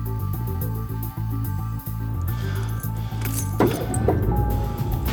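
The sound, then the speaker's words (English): A brief metallic jingle of keys being picked up from the car seat near the end, over a steady low engine hum inside a car. No one speaks. “keys are on the seat next to you.”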